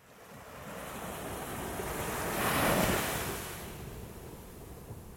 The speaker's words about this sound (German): Das Meer hat sich wieder beruhigt, doch da liegt dieses Stück Boot, ein bisschen Rumpf, ein paar Bodenplanken, blau bemaltes Holz, zerbrochen und verbogen.